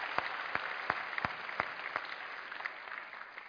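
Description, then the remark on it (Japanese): A church audience in Japan gives God a round of applause in a dense, sustained wash of clapping, with a few sharper claps landing in a steady rhythm before the applause thins slightly toward the end. No one speaks. “Let's give God a big round of applause if we can.”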